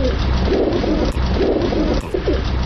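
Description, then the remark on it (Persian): Kept domestic pigeons in Afghanistan coo in soft, throaty, repeated rolls, steady over a constant low rumble of background noise, with a couple of brief sharp clicks. “مردم افغانستان در ارتباط به کبوتر تعبیرهای مختلف دارند.”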